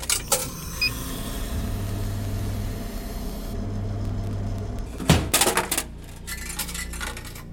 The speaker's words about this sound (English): Oh, we're not doing this. I did not put money in. I did not put money inside of that vending machine. Cool, haunted vending machine. Love it.